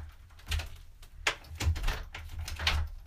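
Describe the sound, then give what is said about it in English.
A key scrapes and clicks in a front door lock as the door is locked and the key taken out, several short metallic rattles and clunks over a low background rumble, with no one speaking. “while I lock the front door and take the key out”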